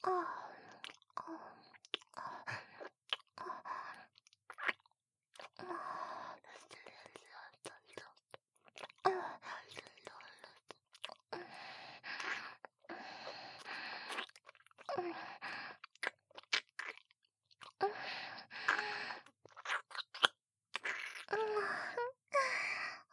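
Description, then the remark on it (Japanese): Quiet wet mouth sounds of a mouth being licked inside and out, with licking, smacking and slurping in irregular bursts, broken by brief pauses and soft breaths, with no talking. “僕ちゃん、お口の中も外側もねっとり舐め回されちゃってるよ。”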